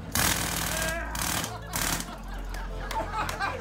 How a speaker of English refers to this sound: At the site of the 5th Street Inn and Market, a golden jackhammer heralded the beginning of an expansion that'll lead to several hotels and increased office and retail space.